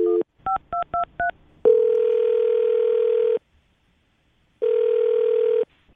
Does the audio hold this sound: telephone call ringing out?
yes